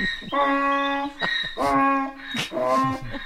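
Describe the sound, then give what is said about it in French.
A donkey on a farm brays loudly, a harsh, honking hee-haw repeating about three times in a steady rhythm, with raspy breaths between the tones and no talking. “Et son âne, on est dans les fermes.”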